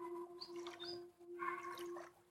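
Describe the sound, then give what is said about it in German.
Gentle splashing of water flowing from a waterfall, a soft steady rush continuing throughout, with faint bird chirps over it and a low sustained hum underneath. No one speaks. “Und langsam hörst du ein sanftes Plätschern. Du hörst Wasser fließen und rauschen.”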